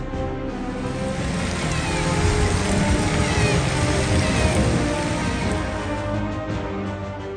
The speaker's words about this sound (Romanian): Și El este acela care a făcut să pogoare apă din cer, cu măsură cuvenită.